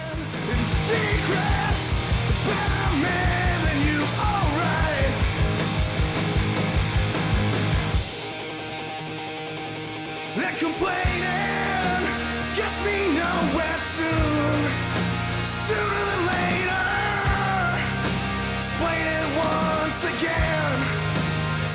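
A loud punk rock song with driving drums, distorted guitars and a shouted-sung vocal, dropping briefly to a quieter stripped-back break before the full band crashes back in.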